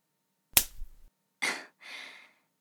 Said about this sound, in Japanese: ビンタがご褒美なんでしょ？上手に回れたから褒めてあげてるの。